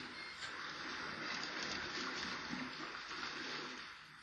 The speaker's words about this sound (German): Aber natürlich. Ich höre es ganz deutlich, wie es rinnt und plätschert und schwappt. Sie haben recht, ich höre das Wasser.